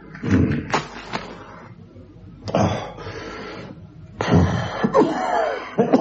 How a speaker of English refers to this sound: Should you be smoking with that cough?